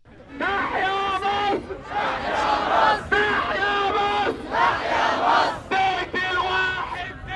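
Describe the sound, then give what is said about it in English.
A crowd of protesters who marched to Tahrir Square from across Cairo, Egypt, shouts slogans against the ruling generals in unison on the first anniversary of the uprising that drove Hosni Mubarak from power. The slogans are loud, rhythmic chanted phrases broken by brief pauses, with many voices blending into a continuous roar. “Protesters who marched to Tahrir Square from across Cairo shouted slogans against the ruling generals overseeing Egypt's transition to democracy.”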